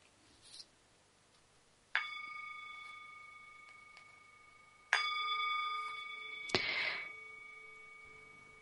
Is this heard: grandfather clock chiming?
yes